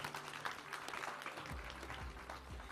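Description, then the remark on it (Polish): A crowd applauds steadily as a commemorative photo is taken, dense overlapping claps forming a continuous, even wash of sound, with a low hum entering partway through. “I wielkie brawa. Wielkie brawa.”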